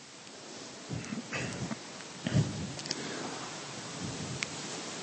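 Steady, soft rain hiss fills the background, broken by a few low rumbling bursts of thunder; fairly quiet overall, with no voices.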